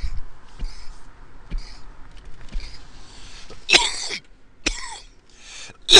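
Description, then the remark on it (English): Harsh, raspy coughing after taking a hit while smoking: a few quiet low thumps and breaths, then three loud, bursting coughs spaced unevenly, the last one sharp and strained. “So, I'm going to thank you by coughing in your fucking ears.”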